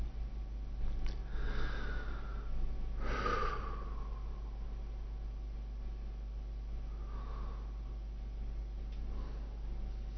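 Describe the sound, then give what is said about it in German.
Slow, deliberate breaths in and out by a person lying on the floor during guided relaxation, breathing in consciously twice and out again: a few soft airy whooshes spaced several seconds apart over a quiet, steady hum, with no one speaking. “Sie atmen ein, zweimal bewusst ein und wieder aus.”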